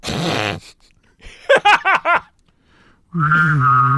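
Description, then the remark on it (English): A voice imitates a UFO, humming and whistling at once: a steady droning tone, then four quick swooping chirps, then a loud sustained buzzy hum with a wavering whistle on top. “This is my UFO noise.”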